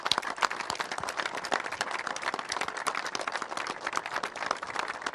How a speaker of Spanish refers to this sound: Así que quiero un aplauso para todos los que están trabajando en esta obra.